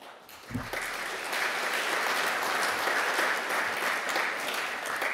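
An audience breaks into steady applause, a dense wash of clapping that swells after a brief thump and holds at an even, fairly loud level throughout.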